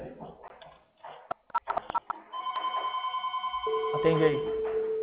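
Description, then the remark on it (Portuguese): A telephone rings: after some brief clicks and handling noises, a steady electronic ring with a fast warbling pulse starts and keeps going, fairly loud, to the end. “Cadê o telefone?”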